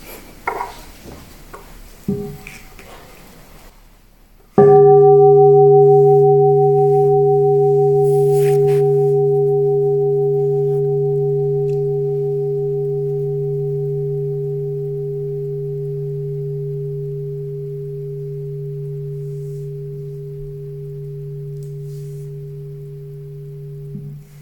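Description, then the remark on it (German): A meditation bell is struck once after some brief clatter, ringing out with a warm, steady hum and overtones that slowly fade over about twenty seconds. “Und es ist so schön, dass man nochmal eine Glocke hört.”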